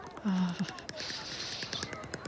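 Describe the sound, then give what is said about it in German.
Teeth chattering from the cold on a day probably below 0 degrees: a rapid, steady run of small clacking clicks lasting a couple of seconds, with a short low voiced hum near the start. “Das sind meine Zähne. Die klappern vor Kälte.”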